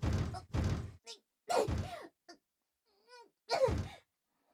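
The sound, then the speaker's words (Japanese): Four heavy thuds against a wooden storehouse door that will not open, as if barred from outside, in uneven bursts, with strained grunts and breathy effort sounds between the blows. “ちょっとドアが開かない。”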